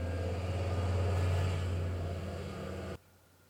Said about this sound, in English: The truck just went down the road and the window's open.